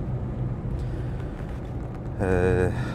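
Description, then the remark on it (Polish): A small Fiat 126p's engine drones from inside the cabin while driving around Kraków, a steady low rumble that swells into a louder, rising whine near the end as it revs, with faint voices underneath. “Miło mi w maluchu.”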